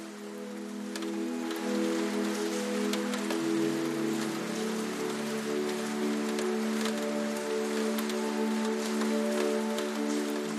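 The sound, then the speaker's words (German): Gentle rain falls steadily in a city, a soft continuous hiss dotted with scattered droplet ticks, over a low, constant humming drone. No one speaks. “Und der Regen ist wie ein sanfter Schleier, der sich um dich legt und dich in eine Welt des Friedens und der Stille einhüllt.”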